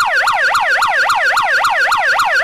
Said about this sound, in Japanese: それともう一つ、緊急用のサイレンもついております。